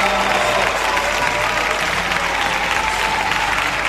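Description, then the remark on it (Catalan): Sustained audience applause for the children of Sant Ildefons appearing on stage, a dense steady wash of many hands clapping at an even loudness throughout, with faint crowd murmur underneath. “Els aplaudiments són per ells.”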